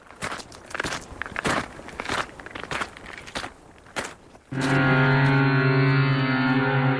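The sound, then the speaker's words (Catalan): Seven footsteps crunch across hard stony ground at a steady walking pace toward the rising sun, then a loud, sustained tonal hum suddenly takes over for the remaining seconds. “7 passos cap al sol naixent.”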